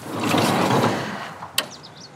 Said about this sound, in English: I can open my van door and let the sunlight in.